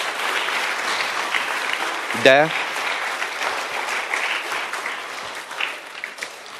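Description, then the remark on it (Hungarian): Steady applause from a sizable audience applauding two people, a dense crackle of clapping hands that carries on throughout, with a brief spoken syllable cutting in near the middle. “Tapsoljuk meg őket, mindkettejüket.”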